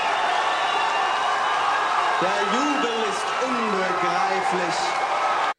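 audience cheering

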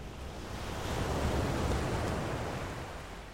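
ocean waves and surf

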